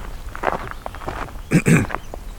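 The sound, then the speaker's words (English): A few footsteps crunch along outdoors, soft at first and then two louder, heavier steps near the end, with a faint hiss of background noise between them. “Walk over to the section where I think I heard pine warbler.”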